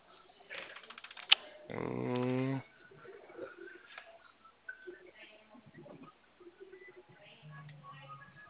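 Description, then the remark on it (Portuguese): Scattered clicks of typing on a computer keyboard, light and irregular, as someone on a phone call looks up a phone number for the caller, heard over a narrow phone-line sound, with a brief loud buzzing tone partway through and faint background murmur. “É que meu computador não tá muito legal hoje.”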